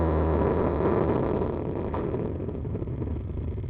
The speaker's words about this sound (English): That was the sound of this morning's earthquake, recorded by geophysicists at the Dublin Institute for Advanced Studies. The shock was felt in Ireland all along the east coast and inland as far as Kildare, and lasted up to half a minute.